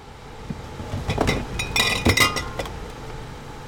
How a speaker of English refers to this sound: pulls glass jars of raw cow's milk from one of the coolers against the wall of a refurbished shuttle bus.